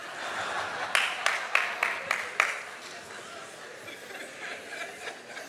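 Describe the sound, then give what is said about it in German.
About half a dozen sharp, evenly spaced hand claps ring out from an audience, then fade into a low murmur of crowd noise and faint background chatter. “Das Klatschen war jetzt nicht neutestamentlich.”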